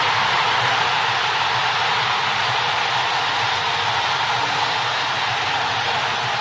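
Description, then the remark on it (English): A loud, steady roar of a packed stadium crowd cheering at the U.S. versus Guatemala soccer match, a dense, deafening wall of noise that holds at the same level for several seconds with no distinct voices standing out. “I mean, you know, that's the kind of crowd noise, the cheering that you hear in the Mike Bush household when it comes to pay raises.”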